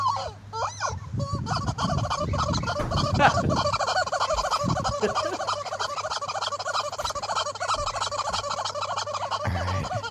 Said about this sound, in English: What's it got in its mouth? What do you got there? He's got a chicken.